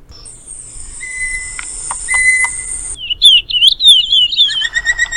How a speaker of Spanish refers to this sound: la situación del agua aquí nos salió unas voces que tenemos en los sonidos de los pájaros, que compartimos en cada jueves en este programa, tanto los sonidos de los cantos de los pájaros como también del agua.